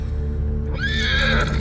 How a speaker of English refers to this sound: She cocks a rifle and points it at the horse. The shot sends her falling backwards. The horse's legs give way and he staggers.